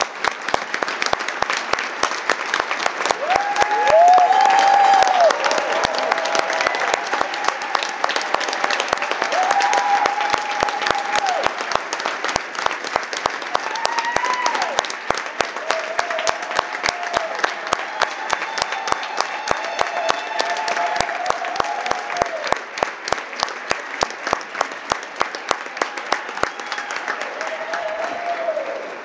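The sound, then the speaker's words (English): Sustained, loud standing applause from a large forum audience for representatives of civil society, dense clapping filling the whole stretch without pause, with faint crowd voices and a few whoops rising beneath it. “And please, let's all stand up and give a round of applause to the representatives of civil society.”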